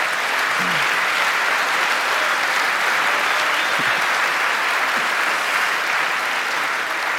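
A sustained burst of audience applause, dense and steady throughout, with many hands clapping at once and no voices standing out above it.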